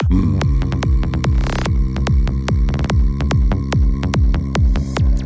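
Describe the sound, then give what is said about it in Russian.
A person's voice imitates a deep, throbbing low-frequency bass hum, as if testing a car audio system. It pulses steadily in quick, even beats and is loud, with a faint crackle over it and no talking. “Низкочастотный фон буду”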